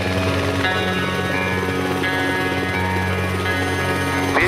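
A loud, steady helicopter cabin drone: deep rotor thrum and engine whine holding constant throughout, with tonal hums layered over a dense low rumble and no voices.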